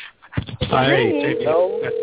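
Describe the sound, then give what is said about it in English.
A phone rings with a steady, mid-pitched electronic tone that holds for over a second, running under a person talking in thin, narrow telephone-line sound. “Okay, so do you hear the phone ringing?”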